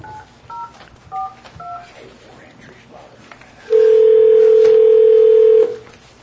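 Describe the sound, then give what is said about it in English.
A handful of short telephone keypad tones beep in quick succession over a faint murmur as an account code is entered, followed by a loud, steady electronic tone holding for about two seconds before cutting off. “Please enter your account code.”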